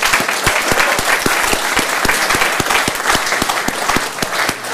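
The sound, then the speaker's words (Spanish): A crowd applauds itself at a speaker's request, steadily, with dense overlapping claps and a few sharper individual claps standing out in an even rhythm, sustained and fairly loud throughout with no talking. “y quiero agradecerles a todos ustedes por eso, y quiero que se aplaudan a todos ustedes, porque...”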